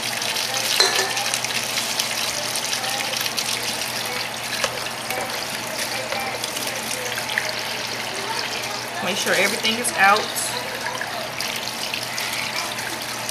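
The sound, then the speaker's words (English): Steady hiss of running tap water splashing as raw chicken is rinsed under a faucet, with brief handling noises and a spoken remark partway through; continuous throughout. “So I'm just going to rinse it off.”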